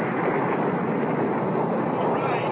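A dense, steady roar of rocket engines firing at liftoff, loud and continuous throughout with no breaks, a thick rumbling wash of noise that fills the whole clip.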